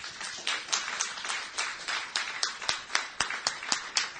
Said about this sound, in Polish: Nie wiem jak wam, ale gdy słucham takie świadectw, to chciałbym Bogu chwałę oddać. Zróbmy to przez oklaski, tak?